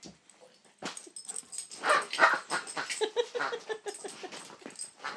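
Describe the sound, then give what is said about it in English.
A puppy playing with a toy whimpers and whines in short, high-pitched bursts, mixed with soft yips and scuffling noises, with no one talking. “Puppy dog.”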